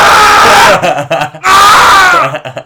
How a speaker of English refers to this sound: Who is screaming outside? Why this? There's a wild mongrel out there.